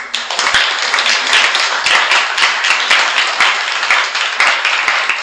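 Steady applause from a group, a dense crackle of many hands clapping at once for about five seconds, loud and even throughout with no voices on top.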